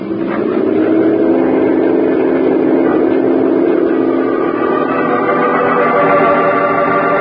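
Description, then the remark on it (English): A motorboat engine roars steadily at full speed on a river, a loud continuous drone with a churning low rumble that holds constant throughout, with no voices. “Radio the other boats to fan out. Throw their spotlights on the river and on both banks. We'll take the center of the fan. Okay, full speed.”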